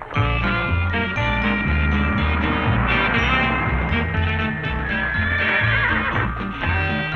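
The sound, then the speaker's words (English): A horse whinnies loudly and repeatedly, its shrill, wavering cries rising over a steady musical backing that fills the whole stretch; no one speaks. “Where did you get the horse?”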